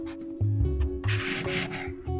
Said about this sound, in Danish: kan du ikke lige prøve at tage den blyant, der ligger foran dig, og tegne en streg på det der stykke papir?